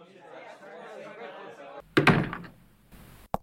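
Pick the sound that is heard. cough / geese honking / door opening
door opening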